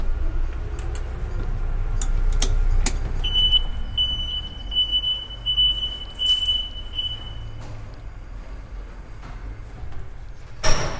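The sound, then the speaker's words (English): A building entry door emits a steady, high electronic beep lasting about four seconds, moderately loud, as someone goes inside, over a low rumble of traffic and outdoor noise, with a few clicks and knocks. “Beep is the door. What that is the door to the building.”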